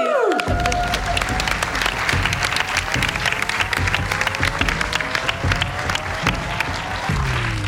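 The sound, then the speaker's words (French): Sustained audience applause for the guests fills the whole stretch, a dense, steady patter of many hands clapping at an even loudness, with a few faint tonal sweeps running underneath. “Et on peut vous applaudir.”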